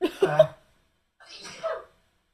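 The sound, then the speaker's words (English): Two short, explosive sneezes, the first sharper and more voiced, the second breathier, separated by a brief silence, with no talking around them. “It was me, Mummy. I sneezed, not Camilla.”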